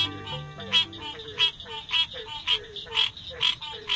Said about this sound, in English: It's morning in the Okefenokee National Wildlife Refuge, land set aside to protect the fabled Okefenokee Swamp of Georgia and Florida. With so much water, it's not surprising that frog calls surround us.